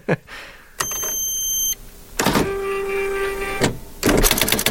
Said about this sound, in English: Typewriter? Yep, there you go. It's an electric typewriter. Yes. Yeah, I was going to say that first. Yeah. That first beepy noise. Yeah, that, I we definitely had an old electric typewriter.